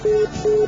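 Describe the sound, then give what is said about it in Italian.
Two steady electronic ringback tones of an outgoing phone call, the 99th ring of a call left ringing, each about a fifth of a second, separated by a short gap, clear with no voices. “Chi fa il conto a 100 squilli quanto ha speso?”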